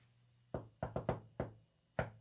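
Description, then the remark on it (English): Six sharp knocks on a door in an uneven rhythm, a single rap, then a quick cluster of three, then two more spaced apart, clear over a faint steady hum. “How do I know that? Because it knocked on the door.”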